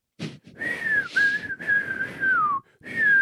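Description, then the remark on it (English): Someone whistles a few long, steady notes, the trick grandmas use to get a small child to pee, each phrase drifting gently downward in pitch, separated by short breathy pauses and no talking. “The grandmas, they whistle.”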